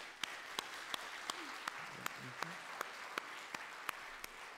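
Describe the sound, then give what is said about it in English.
A church crowd applauds its adult helpers steadily, a dense wash of clapping with a few louder, sharper claps punching through at a regular beat, and a brief faint cheer or voice midway. “So can we have a round of applause for my adult helpers?”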